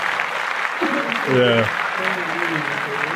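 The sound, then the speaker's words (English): A steady wash of many hands clapping, like applause, runs through the whole moment, with voices calling out and cheering over it, briefly louder around the middle. “And so in that sense, I'm going to clap it up again. Like that.”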